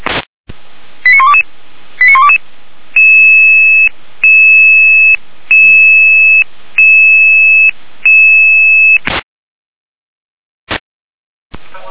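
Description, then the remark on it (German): A sequence of electronic alerting tones sent over an emergency services dispatch radio channel to alarm pagers: a few quick warbling bursts, then five evenly spaced sustained two-tone beeps, ending with a short static burst and a click. No voices. “Leistet hier eine Alarmierung.”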